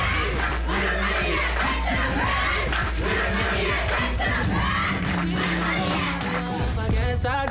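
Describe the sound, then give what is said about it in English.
A group of voices shouts loudly and energetically together, a cheer squad calling out throughout a routine performed to a song remix, sustained with a dense, crowded wall of sound. “And dreams come true for this lit cheer squad showing off their slick routine”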